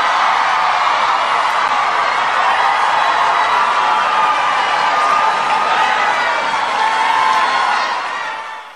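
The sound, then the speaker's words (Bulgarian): A crowd of 1,400 at the Apollo Theater in Harlem cheers and applauds Obama's brief singing performance in a dense, continuous roar that holds steady and loud for several seconds before easing off slightly at the very end. “Тълпата от 1400 души приветства краткото изпълнение на Обама с бурни аплодисменти.”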